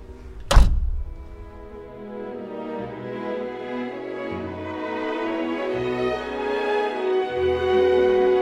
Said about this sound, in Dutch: Ik trek de deur achter ons dicht.